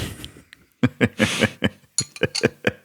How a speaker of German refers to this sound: Gleich ist das Glas endlich leer, dann muss ich nicht mehr klimpern.